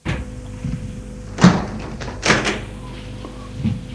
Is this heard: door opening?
yes